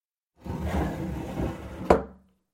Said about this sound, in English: There's only one drawer left, she whispered. I hope it's in here. She pulled the drawer open. It squeaked loudly.